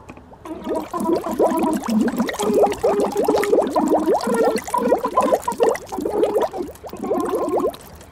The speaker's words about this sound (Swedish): Och så kan du sjunga undervattensånger. Så det bubblar.